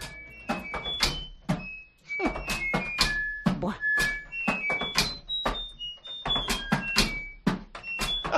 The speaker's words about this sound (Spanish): Pues esos golpes luego que suenan de tambor, pues está cerrando y abriendo la puerta de la lavadora. Mira, escúchalo de nuevo sabiendo esto que te he contado.